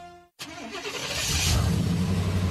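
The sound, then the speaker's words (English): A suburban truck engine turns over and starts after a brief silence, then revs up and rumbles steadily louder as it pulls away, with no talking; Pam Yonke driving her suburban truck across Wisconsin. “There goes Pam Yonke across Wisconsin in her suburban truck.”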